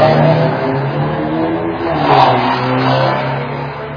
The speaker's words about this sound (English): Peeling. I don't know if you can hear that through my mic. The car is peeling down the road. Sorry about that. Drowned my own hearing out.